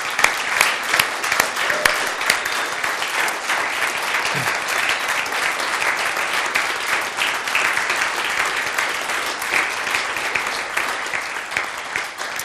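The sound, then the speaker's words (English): Steady, sustained applause from an audience following a baptism, a dense crackle of many hands clapping at a fairly even loudness for several seconds without a break. “Shall we give him a big round of applause?”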